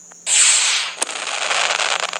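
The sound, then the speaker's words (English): A small firework sound from a touchscreen app, triggered by tapping the screen, goes off with a sudden hissing burst, then a sharp pop and a steady crackle of sparks that fizzles on. No voices are heard. “When you tap different parts of the screen, you can explore it and you would hear different types of fireworks.”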